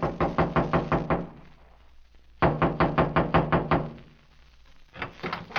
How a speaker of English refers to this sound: Another trailer stood across the clearing from Freddie's body about 100 yards away. I walked through the clearing and knocked on the door.